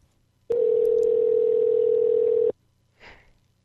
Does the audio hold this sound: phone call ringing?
yes